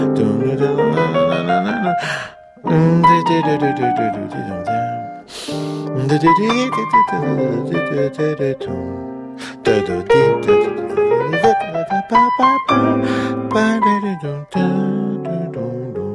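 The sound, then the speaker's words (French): A lone voice sings a wordless melodic solo line, the phrases broken by quick audible intakes of breath every few seconds before the melody picks back up. “Alors que si je le chante, à un moment donné, je suis obligé de prendre ma respiration.”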